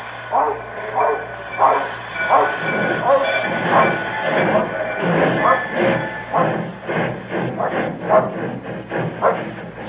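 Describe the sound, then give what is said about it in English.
A train rolls steadily along the rails between Dorbeath and Newton Stewart, its wheels clattering in a quick repeating rhythm, fairly loud, with indistinct shouting voices mixed into the din. “10 hours later, between Dorbeath and Newton Stewart, I pulled the emergency cord and jumped off the train.”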